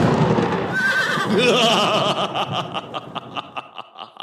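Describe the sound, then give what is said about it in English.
Horses neigh in a loud, shrill whinny that rises and wavers, then trails off into a rapid, fluttering series of snorting pulses, played as a sound effect: the part of Young Frankenstein where the horses neigh after Frau Blücher. There is no talking. “Right there, insert the part of Young Frankenstein where the horses neigh after Frau Blücher.”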